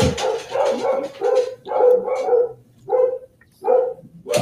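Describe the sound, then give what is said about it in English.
Three dogs upstairs bark at someone they see outside, a steady series of loud barks, roughly eight in quick succession with brief pauses between them, and no voices are heard. “The dogs are smoking.”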